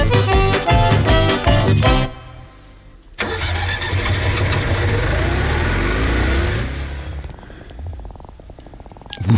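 A car engine roars loud, cuts out briefly, then starts again and revs with a rising, throaty drone before settling into a rough, pulsing idle.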